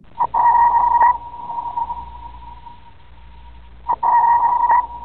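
Two loud submarine sonar pings in the sea, each a steady mid-pitched electronic tone lasting about a second and trailing off into a long fading echo, spaced several seconds apart over a low underwater rumble.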